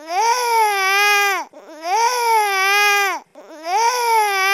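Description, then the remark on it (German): A newborn baby crying in three long, loud wails, each rising, holding a bright harmonic-rich tone, then falling off in an arc, separated by brief gasping breaths. “Sie weinen nach der Melodie ihres Heimatdialekts.”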